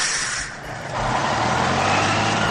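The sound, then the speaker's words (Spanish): A large bus engine rumbles while a loud, steady hiss of air brakes fills the sound, briefly easing before surging back; the bus is setting out from León toward Poniente beach in Gijón. “El autobús ya preparado y el 25 de junio salieron de la residencia en León con dirección a la playa de Poniente, en Gijón.”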